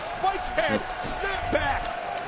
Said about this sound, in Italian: Funaki sale sulla terza corda, sale anche sulle gambe dell'avversario e va con uno stomp all'addome